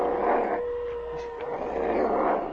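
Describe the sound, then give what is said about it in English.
A pack of wolves howls together in long, sustained, wavering cries that overlap and swell, coming from somewhere above in a canyon, over a rough, noisy background, with no voices. “What's that? Wolves. The ghost pack.”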